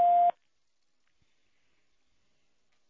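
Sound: telephone beep tone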